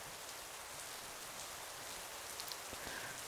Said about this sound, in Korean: 밖에 비가 많이 오네. 낮에는 안 올 것처럼 해가 쨍쨍했는데 갑자기 또 비가 내리기 시작했어. 많이 올 것 같지?